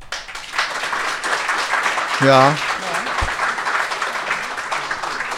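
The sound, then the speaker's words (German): A live audience gives a round of polite, moderate applause in response to a writing tip, a steady patter of clapping lasting several seconds, with a brief spoken interjection cutting through partway. “Ja, das ist höflicher Applaus.”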